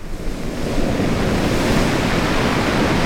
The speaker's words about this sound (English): When the wind picks up at Roy Carpenter's beach, it pushes waves against the quarter-mile stretch of sand.